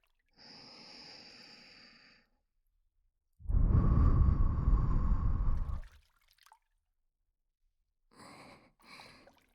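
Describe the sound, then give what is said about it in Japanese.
Breath blown softly into the listener's ear in separate puffs: a gentle exhale, then a stronger, fuller blow, then two short airy puffs, with quiet pauses between and no talking. “耳の中、私の吐息が当たってるの分かりますか？”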